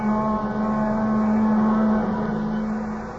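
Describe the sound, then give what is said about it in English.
A train whistle wails in one long, steady low tone with rich layered harmonics over a rumbling mechanical drone, holding for about three seconds before easing off slightly at the end. “The plaintive wail of the train whistle drifting back at him now somehow recalled that other time and place, exactly as if it were this moment.”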